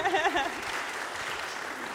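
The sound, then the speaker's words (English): A crowd breaks into steady applause for a girl's 16th birthday, a dense wash of many hands clapping at an even level, with a voice briefly audible at the very start. “Let's give her a wee round of applause.”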